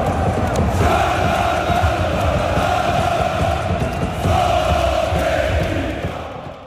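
A huge crowd of more than 6,000 Slovenian football fans chants and sings for their team after a match against Portugal, their unison voices holding steady pitches in a loud, sustained roar with only a slight dip near the end.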